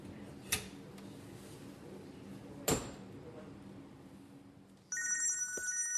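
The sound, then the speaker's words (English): After two sharp knocks over a low hum, a telephone starts ringing with a bright, trilling electronic tone that continues steadily to the end, fairly loud. “Tuesday, the following day, and I get a phone call”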